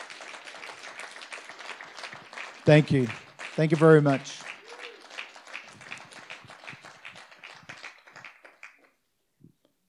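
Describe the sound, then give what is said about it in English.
An audience applauds steadily to honour and thank a group of people who stand up, a dense crackle of many hands clapping throughout, while a voice briefly speaks over it partway through before the clapping tapers off at the end. “Let's give them a big hand, a big applause.”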